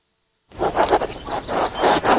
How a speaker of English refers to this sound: Hear that? The sound of your antique fountain pen gliding across linen paper as you journal in the park.